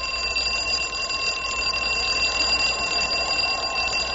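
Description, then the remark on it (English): An alarm clock, rigged as a tripwire alarm with a cord strung from its button to a tree at the base of a cliff, rings continuously and loudly: a steady, unbroken metallic ringing that fills the whole moment, with no voices present. “I strung the cord from the button of the alarm clock to a tree at the base of the cliff.”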